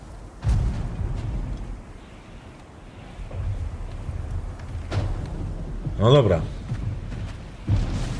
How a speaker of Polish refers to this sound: No rzeczywiście jakaś taka burza idzie.